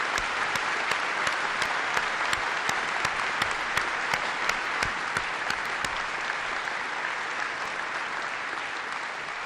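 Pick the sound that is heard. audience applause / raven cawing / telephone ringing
audience applause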